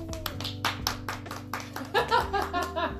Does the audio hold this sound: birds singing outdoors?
no